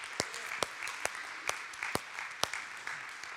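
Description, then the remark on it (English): A church audience applauds, giving the Lord a hand. A soft wash of many hands with sharp individual claps stands out at a steady rhythm, roughly two per second, fairly quiet overall. “Can we give the Lord a hand for that?”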